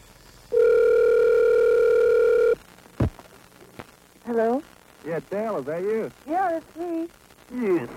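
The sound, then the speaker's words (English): A single long telephone ring tone heard down the line during a live radio broadcast, steady and buzzy for about two seconds, followed by a click as it's picked up and then people talking. “All right, now we got it ringing.”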